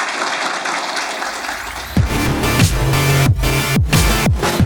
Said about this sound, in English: All right, can we have a round of applause for the panelists? Thank you all.